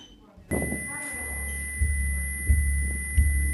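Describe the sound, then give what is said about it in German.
A steady, high electronic beep tone, a stress-test sound used to calibrate incoming data values in an installation, switches on abruptly and holds unbroken, with a low hum and a few soft rhythmic thumps beneath it. “Dieser Sound hier, dieser Piepton, ist quasi der Stresstest-Sound, um die ankommenden Werte zu kalibrieren.”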